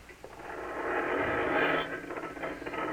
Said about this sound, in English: You open the garage door, then jump into the car.